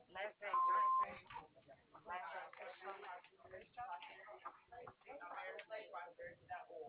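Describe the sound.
A single short, steady answering-machine beep rings out at a medium-high pitch, lasting about half a second, amid tinny telephone-line voices talking before and after it.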